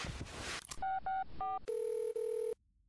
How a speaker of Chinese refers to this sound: 好像没在，看来他不在，我给他打个电话。